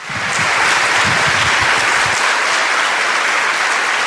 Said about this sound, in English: Stop clapping so we can talk.